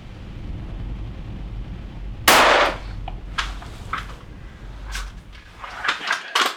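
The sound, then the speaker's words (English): A small window in the glass is pushed open so a rifle muzzle can be poked through: a sharp clack of the frame, then a scatter of lighter clicks and rattles as it settles, over a low steady rumble. “opening a small window in the glass where he can poke the muzzle of his rifle through.”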